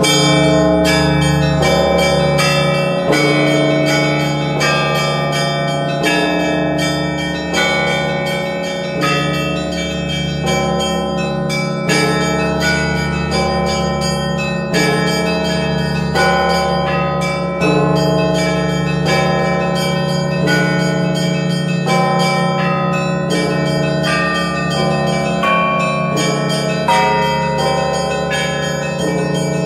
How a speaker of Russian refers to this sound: я думаю, будет правильным, если сейчас в эфире прозвучит колокольный звон, который донесется до нас из Валаамского монастыря.